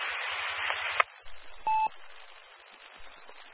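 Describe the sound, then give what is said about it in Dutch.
Steady, band-limited radio hiss from a weak transmission fills the whole clip, with a sharp click partway through and a brief, steady mid-pitched beep soon after. No one speaks. “Dat was Ruis.”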